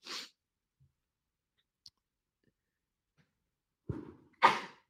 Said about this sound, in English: Ruh-roh. Hopefully it's just plant dust. Ruh-roh. She's sneezing.